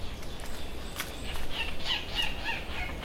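A few short, high chirps of a Seychelles warbler, one of the world's rarest birds, come in quick succession over a steady hiss of outdoor background noise on a hot, humid Seychelles island, thin and fairly faint, with no voices.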